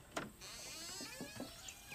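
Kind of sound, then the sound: household object, front door opening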